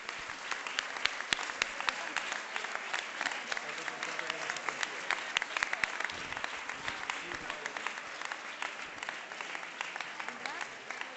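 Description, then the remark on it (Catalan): Sustained applause from a sizable audience for the restaurants Barquet and Lehmann, Izaguirre vermouth and Busquets crisps, before a gift presentation; dense overlapping claps fill the whole stretch at a steady, fairly loud level without letting up. “Us pregaria un aplaudiment per tots ells i els farem una entrega d'un obsequi.”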